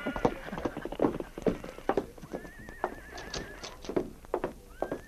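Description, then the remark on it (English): Blackie, Sergeant Preston's horse, whinnies with a wavering, high-pitched call while its hooves clip-clop in a steady rhythm as it is ridden to the constable's office in Selkirk, the neighing rising and falling over the trotting beat. “Sergeant Preston mounted his horse, Blackie, and with King, rode to the constable's office.”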